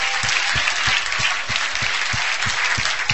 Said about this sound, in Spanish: Dese un aplauso que se ven hermosos.